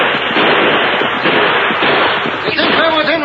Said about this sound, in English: I want them to hear our guns. The smoke and the attack at the same time. That's what the Lone Ranger was counting on.